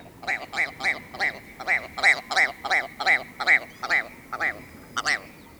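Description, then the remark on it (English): A ptarmigan's laughing call: a rapid series of about fifteen harsh, nasal croaks in a steady, chuckling rhythm, clear, with faint background noise and no talking. “Well, it's no wonder why the ptarmigan likes a good laugh.”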